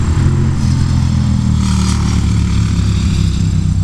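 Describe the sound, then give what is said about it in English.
A motorcycle engine drones loudly and steadily, its low rumbling hum holding constant as it rolls past on Old Maple Road, with no voices. “And the motorcycle toolboxes go by on Old Maple Road.”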